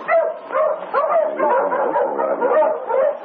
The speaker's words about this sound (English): Who's your dog, Sergeant? Yes, I wonder why they're barking. Hello, boys. Quiet down. Take it easy.